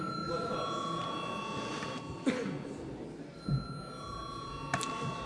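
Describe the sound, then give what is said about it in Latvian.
A steady electric bell sounds in the Saeima parliament before a vote, ringing without a break for several seconds over a low murmur of voices, punctuated by a few soft thumps and shuffles. “Lūdzu zvanu.”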